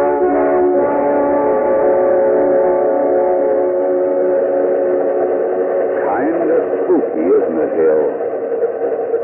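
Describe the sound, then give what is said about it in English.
A train bound for Philadelphia passes through the night, its whistle sounding as a steady, reedy chord that holds for several seconds before wavering and bending in pitch toward the end, all with a thin, muffled, radio-like tone. “Ghost train cutting its way through the night.”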